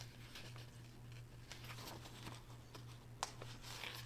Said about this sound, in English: Sorry. Turning pages.